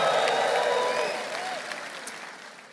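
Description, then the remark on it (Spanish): A church audience erupts in sustained applause mixed with raised voices and cheers, shouting praise to the Lord. It is loud at first and gradually tapers off over a few seconds. “Un grito de alabanza al Señor.”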